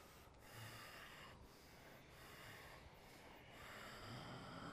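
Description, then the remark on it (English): Steady ujjayi breathing during a yoga flow, a soft rushing ocean-like hiss that swells and eases in long, continuous waves, heard alone without any talking. “A conscious commitment to ujjayi breathing.”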